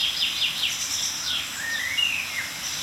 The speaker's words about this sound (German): Aber wir hören ein paar Kontaktrufe oder milde Aufregungsrufe einiger Meisen um uns herum. Und die gehören zu der Fraktion, die gerade sehr, sehr still ist.